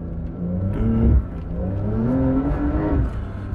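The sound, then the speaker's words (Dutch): A Porsche 911 Dakar engine runs steadily, its low, rich tone rising and falling as the revs climb and ease off, with harmonic sweeps underneath and no talking over it. “En als je ooit een 911 Dakar kan kopen, gelukkige omstandigheid bent, doe het ook. Want dit is zo'n gave auto.”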